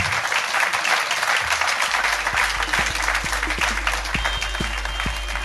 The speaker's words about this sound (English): Ladies and gentlemen, please give a massive round of applause to the incredible Ben Shepherd!